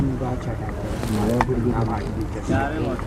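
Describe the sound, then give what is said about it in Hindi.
The engine of a motor boat that carries bikes from one bank of the river to the other rumbles steadily, a low continuous drone running under people talking over it for the whole stretch. “ये motor boat है ना, बाइक्स लेके जाता है इस पार उस पार।”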